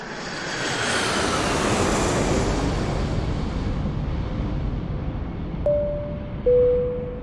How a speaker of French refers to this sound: Début des années 70, un avion décolle des États-Unis pour rejoindre l'Europe.